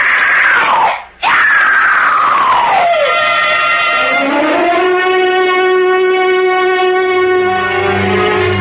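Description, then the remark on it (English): A woman screams in terror as she is carried away to the catacombs, a long sustained wail with a brief break, her pitch sliding high then dropping lower and holding in a strained, harmonic-rich cry. “Consumed by revenge, Arno Montresor bears the numbed body of Isabella away to the catacombs below as the terror in her heart pours from her throat.”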